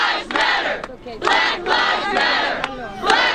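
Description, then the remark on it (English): A large protest crowd of hundreds of demonstrators in Washington shouts in loud, surging bursts, many voices rising and falling together in rhythmic chant-like waves with brief dips between them. “Hundreds of demonstrators showed up to express anger and frustration.”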